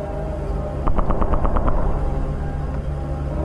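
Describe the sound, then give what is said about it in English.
A lone fighter jet flying overhead fires its guns at falling asteroids: a rapid burst of about eight sharp shots lasting under a second, over a steady low engine rumble that continues after the firing stops. “The jet started firing at the asteroids.”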